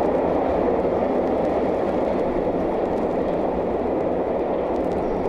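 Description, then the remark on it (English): A subway train runs with a steady, even rumble and whoosh, holding a constant moderate loudness throughout with no voices and no distinct clacks or announcements. “That was like the Montreal Metro.”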